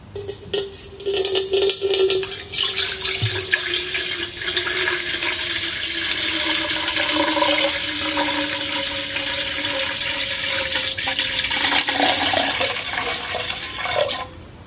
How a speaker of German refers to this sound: So, wir sind wieder da und haben nur eben eine Flasche Wasser geholt. So, dann lasse ich mal die Schale hier ausrichten. Genau, wir gießen einfach Wasser rein.